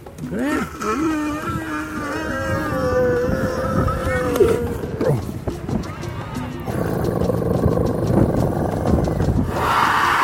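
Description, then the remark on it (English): Captive elephants, old friends, rumble to each other, long low droning calls with a groaning, wavering pitch that overlap and run on for several seconds over a rough, noisy background. “Eavesdropping on this conversation between old friends reminds me what's really important for these captive elephants.”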